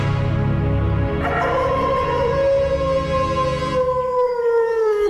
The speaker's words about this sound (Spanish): Más tarde, al igual que los otros días, el lobo salió aullando del bosque.